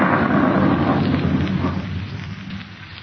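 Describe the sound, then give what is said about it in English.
A thunderstorm: a deep, rolling rumble of thunder slowly fading beneath a steady wash of heavy rain, loud throughout with no voices. “Well, I'm going in. I don't like storms.”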